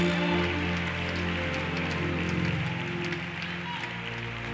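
An audience claps steadily, a dense, continuous patter of many hands with a low hum underneath, holding at a fairly even level for the whole stretch.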